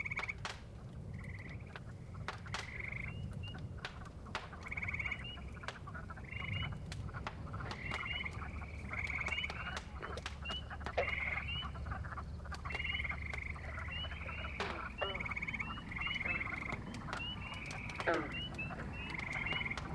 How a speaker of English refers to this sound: What's that? God, those frogs are loud. They've increased. In fact, they're increasing by the minute.